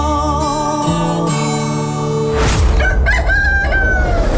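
A rooster crows loudly, a single long, strained cock-a-doodle-doo that follows a sustained tonal passage, with no one speaking.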